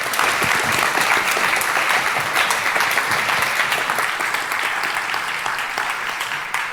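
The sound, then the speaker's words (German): Sustained audience applause welcoming a presenter before a talk. It is a dense crackle of many hands clapping at steady loudness for several seconds, tapering slightly toward the end, with no voices standing out. “Und genau, erstmal einen großen Applaus, denke ich.”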